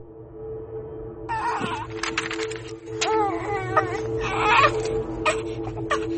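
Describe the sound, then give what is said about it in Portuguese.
Twin babies crying under the scorching sun in southern Angola, in wavering, high wails that overlap and rise and fall, starting after a brief quiet moment, over a steady low background hum. “Estes bebês desesperados que choram sob o sol escaldante do sul de Angola nunca conheceram o pai.”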